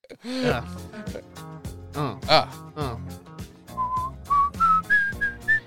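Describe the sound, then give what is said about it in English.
Someone whistles a catchy pop melody in short, rising notes, clear, with background music or vocal sounds underneath. “Yeah, that's why I whistle, because I can't sing.”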